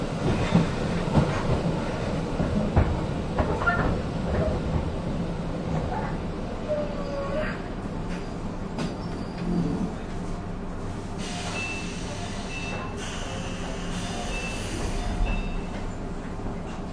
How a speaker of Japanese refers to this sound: この列車柳川から丸森までは運転手一人のワンマン運転で運転を行います。